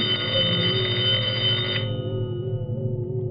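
A telephone bell rings loudly and steadily with a bright metallic trill, then cuts off partway through, leaving a low hum and faint background noise.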